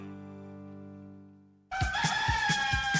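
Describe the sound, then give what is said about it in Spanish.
A low, steady tone hums alone, then cuts off as a loud rooster suddenly bursts into a strained, ringing crow that fills the rest of the moment. “Si amaneces como el gallo dispuesto a disfrutar del campo y listo para comerte el mundo,”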